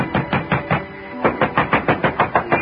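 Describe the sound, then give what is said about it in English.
Rapid, heavy pounding on an apartment door in Danbury in two insistent volleys, each a quick run of loud, evenly spaced thuds separated by a brief pause, with no voices. “But ringing his bell and pounding on his door got me nothing.”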